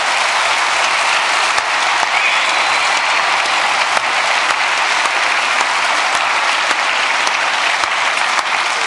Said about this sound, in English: The first videos from the FEM, which did the video streaming here, are already online. Get a big applause for them. Yeah.